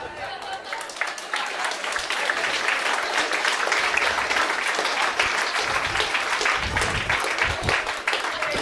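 Sustained audience applause fills the whole stretch, a dense, steady wash of many hands clapping with no pauses, loud and even throughout.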